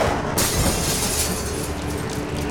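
After a brief moment of low rumbling, window glass suddenly shatters with a bright, hissing crash, followed by a steady wash of noisy debris that continues to the end. No one speaks.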